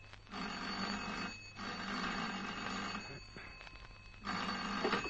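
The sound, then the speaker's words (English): An old-fashioned telephone bell rings loudly in an office in several long, buzzing bursts separated by short pauses, with no voices. “I was multiplying 48 by 7 when... on the phone.”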